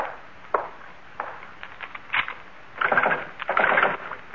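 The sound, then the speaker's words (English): A back door is handled and shut: a few scattered clicks and knocks, then two louder clattering thuds as it closes and the lock is worked, with no talking. “Well, first the back door.”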